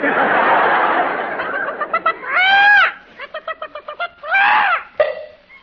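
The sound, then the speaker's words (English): A voice imitates a hen cackling while laying an egg: a noisy start, then rapid staccato clucks broken by two loud, drawn-out rising-and-falling squawks, ending on a sharp final cluck. “Our hen is laying an egg.”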